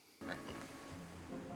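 A pig character named Pig oinks and grunts in a continuous snorting run that starts abruptly after a brief quiet moment and stays fairly loud to the end.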